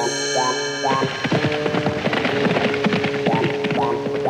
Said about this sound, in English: As the horse and boy galloped off,